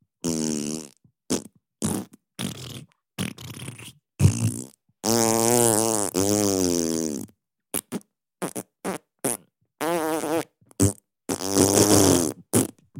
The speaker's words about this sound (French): ce qui lui procure cette étrange fascination est ni plus ni moins, ou ni moins ni plus, de lâcher des pets.